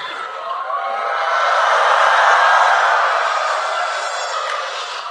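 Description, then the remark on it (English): A crowd of voices, on a second attempt, lets out a loud, sustained shrill screech together, imitating screaming elephants; the din swells toward the middle and tapers slightly over about five seconds. “Everyone, make sound like screaming elephant.”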